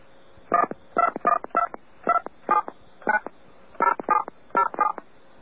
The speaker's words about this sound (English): Please dial the phone number